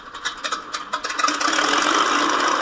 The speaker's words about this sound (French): D'ailleurs, le voilà qui décolle avec son petit avion en cette belle journée du 24 juin 1947.